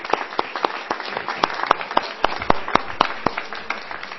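An audience applauds steadily for several seconds after the reading of the Declaration of the Canary Islands, approved by the presidents of the regional parliaments, in Santa Cruz de Tenerife on 19 January 2018: a dense wash of clapping with sharper individual claps popping out in a quick, fairly regular rhythm.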